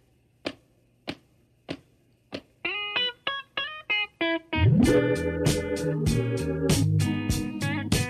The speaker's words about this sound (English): You imagine in your mind that it's really a foot stomp that kicks it off, right? You know, bump, bump. Bum, bum, bum, bum, bum. Right, but when you actually listen to the song, it's not a foot stomp. It's really just a simple rim shot tap.